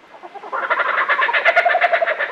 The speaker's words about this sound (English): I bet you've heard this sound before, maybe on the soundtrack of a movie. It's a bird voice so distinctive, it's become one of the best-known sounds in nature. This oddly familiar, crazed laughter belongs to the laughing kookaburra of Australia.